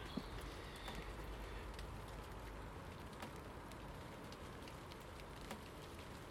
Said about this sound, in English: Rain, rain, go away. Just for a wee bit, please. Can't get much done. Well, can't get anything done outside. When the weather's like this.